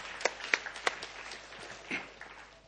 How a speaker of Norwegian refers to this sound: Kom igen, låt oss ge Jesus en applaus.